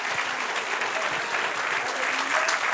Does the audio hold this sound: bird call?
no